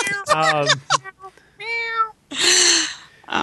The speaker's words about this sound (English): Meowing.